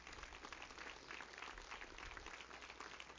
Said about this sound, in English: Would you give the Lord a good clap offering this morning?